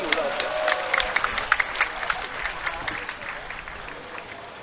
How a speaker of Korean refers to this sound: 심청 박수로 모시겠습니다.